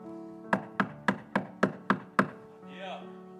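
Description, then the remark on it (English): Seven quick, evenly spaced sharp knocks on a door over a low steady hum, followed by a brief voiced sound as the knocking stops. “Devil, Lucifer goes, did y'all hear that? Somebody's knocking at our door.”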